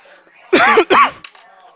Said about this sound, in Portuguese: Parece que tá tossindo também, tá igual eu.